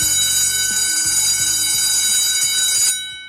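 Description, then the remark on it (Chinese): A school bell signalling the evening self-study break at 7:30 rings loudly and continuously with a harsh electric clangor for about three seconds, then cuts off and fades in a brief ring-out. No one speaks. “晚自习休息的铃声响起，我抬头看看挂在办公室墙壁上的时钟，7:30。”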